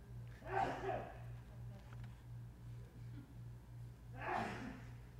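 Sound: sneeze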